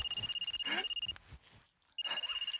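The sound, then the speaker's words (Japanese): A phone rings with an incoming call from the family home: a bright, rapidly trilling electronic tone in two bursts separated by a short pause, clear, with no one speaking. “セックス中に電話に出たからって怒ったりしねえし”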